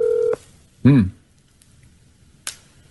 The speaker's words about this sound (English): Okay, we are calling. We're calling.